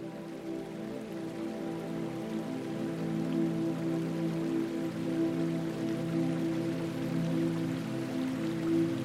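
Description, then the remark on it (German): Soft, steady water sounds continue throughout, a gentle gurgle and patter of water from a 2,000-year-old spring rising at the bottom of a well in a garden, even in level, with no voices. “Es unterstreicht die Bedeutung der Quelle, die hier am Grund des Brunnens entspringt. Ein leises Gurgeln dringt an dein Ohr.”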